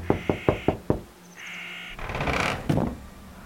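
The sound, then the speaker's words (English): Five quick, evenly spaced, sharp knocks on the door of Paul's house, followed by a short creak and some scraping, rustling noise. No one speaks. “Do we just knock on his door and start asking questions?”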